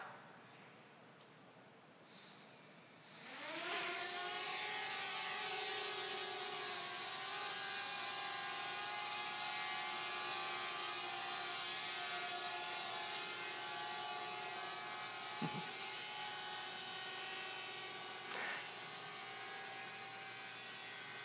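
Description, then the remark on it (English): After a few seconds of near quiet, a drone's propellers spin up with a rising whine, then settle into a steady, loud multi-toned buzz that holds to the end, with a couple of faint clicks, as the drone streams video to a laptop for real-time anomaly detection. “For the first time ever, we're able to stream video back from that drone to this laptop running IoT Edge and our AI model, which was developed in the cloud.”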